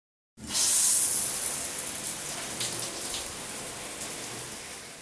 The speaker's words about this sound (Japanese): 風呂場のドアを開き、脱衣所に置いてあった携帯を彼は手にした。そして再びシャワーを流す。